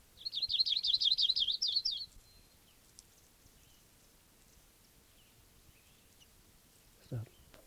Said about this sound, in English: Recording again, that same bird. Wow, bird.